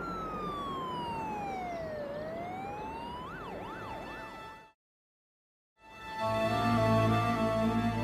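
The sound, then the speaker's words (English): A loud siren of an ambulance racing towards hospital wails in a slow falling sweep, then switches to a quicker rising-and-falling yelp over a rumbling background before cutting out abruptly, followed by a short silence and a steady drone. “George was racing towards hospital in the back of an ambulance, fighting for his life”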